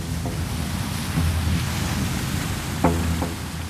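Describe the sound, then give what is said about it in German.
A steady wash of water rushing past a 33-metre passenger ship ploughing through the ice-cold water of Lake Chiemsee in Bavaria in mid-November, with a constant low engine rumble and wind noise, punctuated by a couple of brief splashes or knocks. “Durchpflügt das eiskalte Wasser, das träge wirkt, fast wie Öl.”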